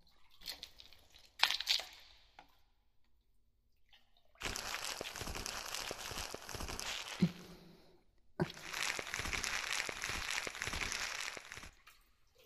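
Soap foam being lathered right by the ear: a few brief squishes, then two long stretches of dense, crackling, bubbly friction with a short pause between them, with no voices.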